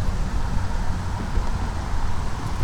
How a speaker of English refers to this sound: Okay, so here I am standing at my car. Gonna open it up here. Hope this wind isn't too much.